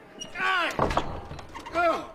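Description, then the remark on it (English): A door slams shut once with a sharp, heavy bang, between loud raised voices calling out before and after it. “Keep the door closed, sirrah.”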